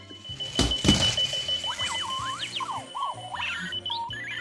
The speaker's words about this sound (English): Join us next time for the alarm clock that really gets around.